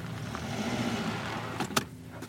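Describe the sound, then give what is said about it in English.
A hearse being driven off-road in the middle of nowhere rumbles over rough ground, its engine droning low and steady under gritty noise, then a couple of sharp knocks and clunks jolt through near the end. “I'm taking a hearse off-roading.”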